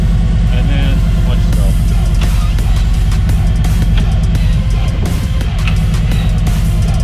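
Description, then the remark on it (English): A motorcycle trike with a stage one upgrade, Cobra exhaust and Screaming Eagle high-flow intake rumbles loudly and steadily, a deep throbbing low-pitched idle with a pulsing beat and faint mechanical rattles above it for the whole stretch. “So she has a real nice rumble and sound to it.”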